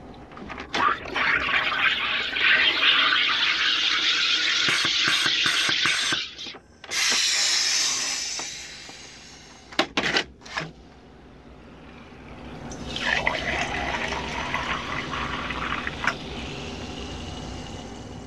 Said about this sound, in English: The sound you just heard is the sound of my dad's soda stream.